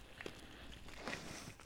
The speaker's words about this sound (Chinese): 门卫刚才好像有脚步声呢